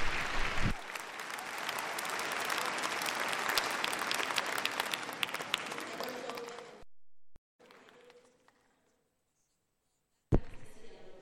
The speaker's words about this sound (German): Also jetzt haben wir geklatscht, um Danke zu sagen. Ich denke, es war nur ein halbes Dankeschön.